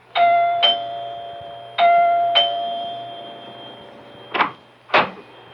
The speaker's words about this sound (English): It is the next morning, and Dr. Lem Regan rings the doorbell of Clyde Wilkins' house.